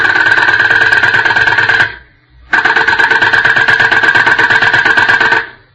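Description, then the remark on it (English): A dentist's drill, used by the doctor on a patient, whirs loudly with a steady high-pitched whine, cuts off briefly, then starts again for a longer second burst before stopping. No voices are heard. “Is that a drill? Yes, the doctor is working on a patient.”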